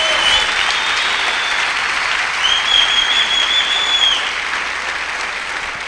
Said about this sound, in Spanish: Dele un aplauso al Señor por eso, por los embriagados.